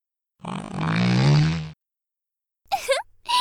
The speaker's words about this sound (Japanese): 君が息するタイミングでとっておきなの出しちゃった。私のおならの匂いと3日間熟成されたムレムレの匂いがブレンドされた空気を吸う気分はどう？